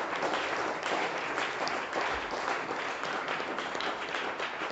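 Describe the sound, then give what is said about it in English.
A crowd applauds for the Lord, clapping steadily, many hands together in a dense, continuous wash of sound that holds at an even level for the whole stretch, with no voices standing out. “Let's clap for the Lord for that word.”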